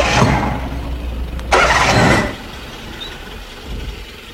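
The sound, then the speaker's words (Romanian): A car engine cranks and turns over with a loud burst, then settles into a steady low idle rumble, with no voices. “Pornește motorul.”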